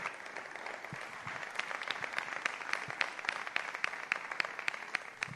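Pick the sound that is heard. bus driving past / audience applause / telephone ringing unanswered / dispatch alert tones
audience applause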